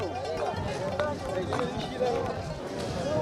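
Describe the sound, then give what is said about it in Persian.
Dense crowd ambience in a very crowded market lane in Jalalabad, Afghanistan, with many overlapping voices forming a steady hubbub and scattered footsteps and movement throughout. “بسیار بیروبار است وطندارای عزیز، قدر بیروبار است این کوچه که رای پای ماندن نیست دیگه، که پای بانی و قدم بزنی.”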